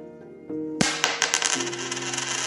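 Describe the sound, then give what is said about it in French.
Gold coins clink and jingle in a sudden bright shower: a handful of sharp metallic clinks over a shimmering rattle, with a soft sustained musical tone playing underneath. “Il possède les plus grands trésors du monde. De l'or!”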